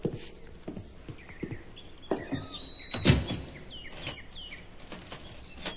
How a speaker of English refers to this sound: But I got to stay here and see that you close the door. Sure.